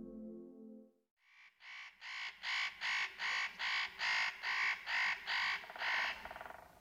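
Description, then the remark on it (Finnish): A spotted nutcracker gives a long series of harsh, rasping calls, about a dozen loud scratchy notes repeated at a steady, quick pace, preceded by a brief low tonal sound. “Tällaista karkeaa, käheää ja kitisevää ääntä päästelee pähkinähakki.”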